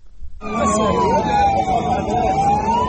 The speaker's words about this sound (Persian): شتاب آمبولانس ها برای انتقال زخمی های ناشی از حمله هوایی اسرائیل در غزه به بیمارستان.